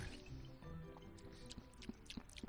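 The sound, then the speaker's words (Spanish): Wet liquid swishing as a person swishes water from a bottle around in the mouth, wine-tasting style, with gurgly squelches and small bubbly pops, building into a few distinct sloshing bursts toward the end, with no talking. “Claro, el ruido, vamos a ver, voy a intentar hacerlo con esta botella de agua.”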